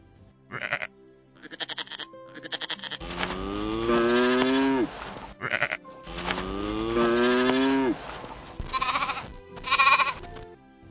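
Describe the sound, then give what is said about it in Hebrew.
A bull lets out two long, deep moos while sheep bleat in short bursts before and after, as a bull and sheep are brought out to the high priest for the day's temple offerings; no one talking. “מיד יוציאו אליו את שני הכבשים של היום, וגם את קורבנות המוספים, פר אחד ושבעה כבשים. הנה, הם באים.”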